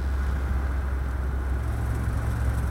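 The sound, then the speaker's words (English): A steady car interior drone as a car is driven, with deep low engine rumble and constant road noise, unbroken for the whole stretch with no voices. “Here's Vaughn driving with Ballard.”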